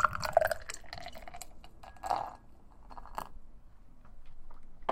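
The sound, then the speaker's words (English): Melon Cart, a watermelon wheat ale, pours into a glass, with gurgling, splashing bursts and dripping sounds that come and go over a few seconds. No one speaks. “But, that said, let me pour.”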